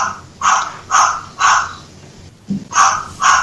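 A parrot mimics a dog's barking with five harsh, raspy barks, three evenly spaced, a brief pause, then two more. Loud, with no talking.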